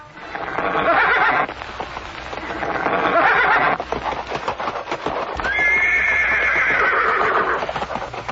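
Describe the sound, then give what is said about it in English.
A horse whinnies loudly and repeatedly in long, shrill neighs, with the clatter of galloping hooves running underneath, the neighing of the horse demon Keshi coming to fight Krishna. No one speaks. “by neighing terribly and shaking the clouds with his tail, the Lord came forward to meet him.”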